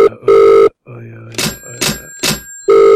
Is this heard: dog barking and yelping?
no